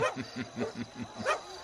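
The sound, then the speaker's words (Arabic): Dogs released to track a trail bark in a rapid, steady run of about seven sharp yaps over under two seconds, loud, with one higher, louder bark near the end. “أطلق الكلاب ولنواصل تتبع أثرهم.”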